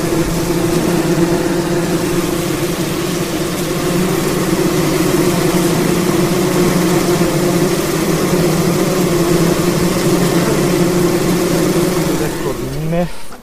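A dense, steady drone of many honeybees swarming around an open hive on a hot, sunny day, loud, a continuous buzzing hum that holds unbroken for the whole stretch before trailing off at the end.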